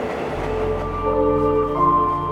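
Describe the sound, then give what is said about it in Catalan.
A metro train rumbles at a station platform, a steady low drone with rising whining tones as it moves, loud, with no voices. “En Pol és dret a l'andana del metro.”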